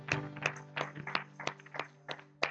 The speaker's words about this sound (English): Amen. Let's give Lord an applause.